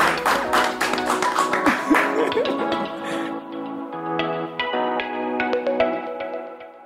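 A burst of applause, many hands clapping densely at once, which thins out after a few seconds as a steady tonal, musical sound takes over, punctuated by occasional sharp ticks.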